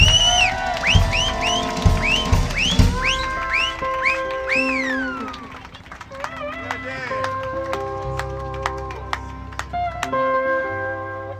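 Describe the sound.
A crowd cheers and whoops, with rising whistled calls and excited voices over scattered, sharp claps that continue steadily throughout.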